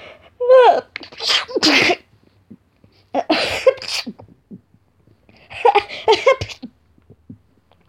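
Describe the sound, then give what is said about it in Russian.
A voice sneezes three times in quick succession, performed as a young rat sneezing in a story, each a rising intake followed by a loud, sharp burst, prominent with brief pauses between them. “Но ему пришлось чихнуть еще раз 20, прежде чем он смог опять запеть свою песенку и снова взяться за дело.”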